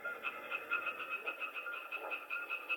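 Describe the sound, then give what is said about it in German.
A European tree frog calling: a steady, rapid series of harsh, nasal pulses, roughly four per second, repeating evenly throughout at moderate loudness, with no voices. “Jetzt kommt wieder der Laubfrosch langsam vor.”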